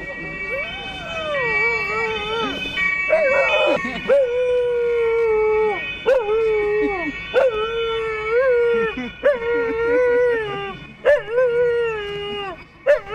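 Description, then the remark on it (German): A dog howls in long, wavering, pitch-sliding wails, pausing briefly between repeated howls; the sound is fairly loud, with a siren-like quality and no talking over it. “Ja, nicht jeder Hund fängt an zu jaulen, weil Polizeiauto vorbeifährt”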